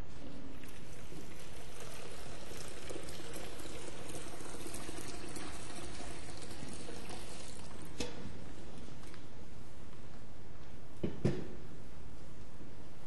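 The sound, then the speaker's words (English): Water pours steadily into a baptismal font during a church service, a continuous splashing rush, then tapers off with a brief louder splash near the end. No one speaks. “We don't dry clean here. We use water in abundance.”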